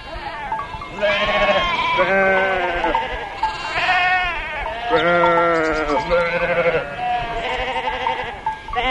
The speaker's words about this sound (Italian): E pecore, ovviamente.